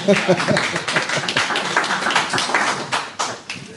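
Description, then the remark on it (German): A burst of applause from a small group, steady, dense clapping that carries on for several seconds, with a brief voice faintly audible near the start. “Ich weiß jetzt auch, was ich tun muss für Applaus, glaube ich.”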